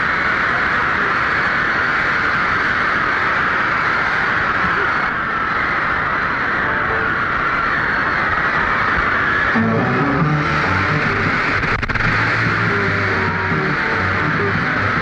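A huge concert crowd roars and screams nonstop, a dense, loud, high-pitched wall of shouting that holds steady throughout, with a few low tonal notes briefly surfacing through the din late on.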